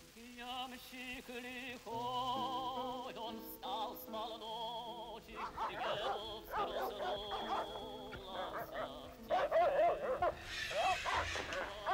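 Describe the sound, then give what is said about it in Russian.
Several dogs bark and yelp insistently, mixed with high whining cries, a busy, overlapping chorus that stays fairly loud for the whole stretch. “Дядь Гриша, собаки сильно лают”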